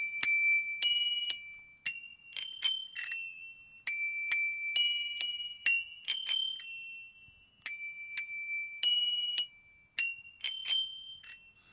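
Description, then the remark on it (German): Two bicycle bells held in the hand ring in turns, bright metallic dings alternating and overlapping in a lively, uneven rhythm, clear with no talking. “Wenn man die Klingeln jetzt in der Hand hat und dann eine klingelt, dann die andere und dann wieder immer abwechselnd oder durcheinander, das klingt dann richtig lustig.”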